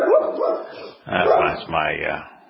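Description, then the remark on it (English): A female dog barks in three drawn-out, whiny bursts, the first two running together and the last two separated by short pauses, fairly loud with no other sounds around them. “My canine here, my dog friend, thinking go get him means that she's supposed to go woof at him.”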